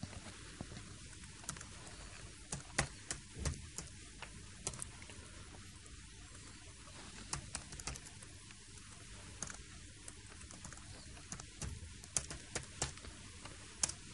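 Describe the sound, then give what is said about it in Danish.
Soft, irregular clicking of typing on a computer keyboard, manually entering a correction to a record, keys tapped in short uneven bursts over a quiet background hiss, with no voices. “Og der skal man tage ind manuelt og skrive, hvad det skal være.”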